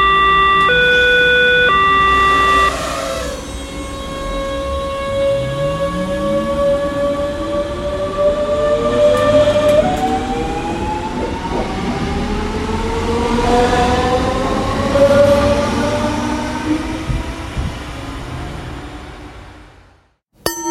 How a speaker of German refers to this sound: Und mit diesen Eindrücken verlassen wir nun schnell die Impf-S-Bahn.